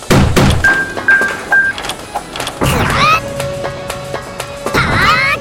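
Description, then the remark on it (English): A door shuts with a solid thunk amid several loud knocks and clatters, with short electronic beeps and a steady tone sounding in between. “closed door position 950.”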